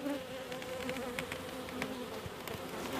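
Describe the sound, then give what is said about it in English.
A dense, steady drone of many honeybees buzzing inside an open hive, recorded with a microphone put into the hive after the beekeeper lifted its lid, with a constant hum and occasional sharper clicks and crackles as they move about. “There's bees busy in there.”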